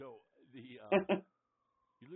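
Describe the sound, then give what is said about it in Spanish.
An emergency siren wails faintly in the background, its steady tone sliding slowly downward while a person's voice talks over it in the foreground. “Bien, siguiente punto, con las sirenas en el fondo, es hora de hablar de las cuestiones y de los asuntos globales.”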